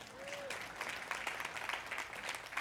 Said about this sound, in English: If you're righteous and you know it, clap your hand.